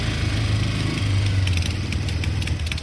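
A motorcycle engine rumbles loudly as the rider puts up the kickstand and revs it, holding a steady, throaty idle with only slight surges in pitch, and no voices over it.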